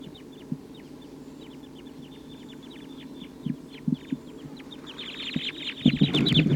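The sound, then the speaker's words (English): A flock of about 14 wild birds perched in a treetop, calling: many short, high-pitched calls repeat steadily and grow busier and louder toward the end, with a few low thumps underneath and no talking. “The wild birds are giving a lot of calling from the treetops.”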